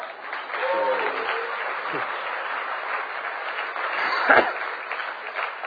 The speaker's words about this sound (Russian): Да-да, это вам аплодисменты, спасибо.